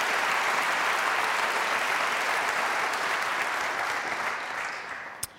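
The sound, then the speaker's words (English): Sustained applause from a concert audience after a 14-year-old pianist's performance of two études, a dense steady wash of many hands clapping that holds for several seconds, then thins out and fades with a last stray clap. “Gosh, and I know we weren't supposed to applaud after the 6, but it's just so hard, and you play it, make it so easy.”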